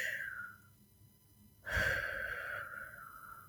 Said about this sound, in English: yeah, breathing in and out slowly can really help to calm you down.